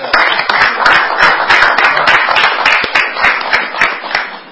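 A crowd gives a round of applause for a volunteer with Paul's Place, many hands clapping in a dense, sustained patter at fairly even loudness for a few seconds, with no voices rising above it.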